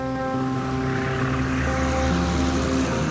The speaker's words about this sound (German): Das Boot nähert sich dem Ufer.